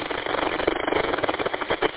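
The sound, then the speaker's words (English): A steady, rough droning growl from the worn passenger-side front wheel bearing assembly of a GMC Terrain, with a faint rhythmic pulsing running through it. The mechanical noise holds at a moderate level throughout, with no one speaking. “my daughter's GMC Terrain's front wheel bearing assembly on the passenger side.”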